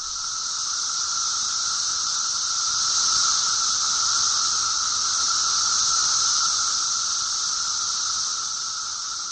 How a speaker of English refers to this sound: We'll go out with a little cicada.